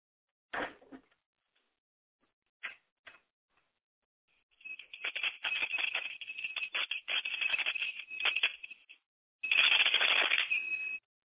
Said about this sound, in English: I meant to also tell you that it's very important that you call the ancestors in a special way. You need to ring a bell.